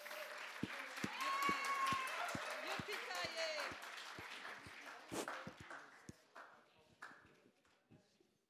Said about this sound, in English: Nous invitons Pastor. Let's give her a big clap.